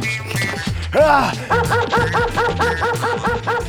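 A dog that has run up fast and bitten a person lets out a loud yelping bark, then launches into a quick, steady run of sharp barks, repeating rhythmically over a low, droning background.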